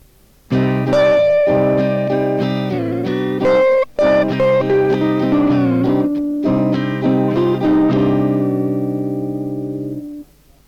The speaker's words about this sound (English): Here is another example using the second and the ninth, this time with longer tones on the second and ninth.